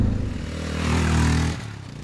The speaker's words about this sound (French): Alors vous l'entendez, c'est un gros mono, ça vibre, ça cogne un petit peu, c'est un mono à l'ancienne. Et oui, c'est un mono à l'ancienne, un gros mono 650 cm3, comme c'était courant d'en trouver dans les trails des années 80.